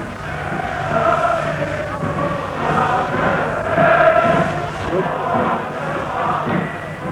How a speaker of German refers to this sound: Wir stehen am offenen Fenster. Sie können jetzt besonders gut hören, wie die Menge jubelt. Wir lassen Ihnen noch einen Augenblick die Musik von draußen ins Fenster hereinschallen.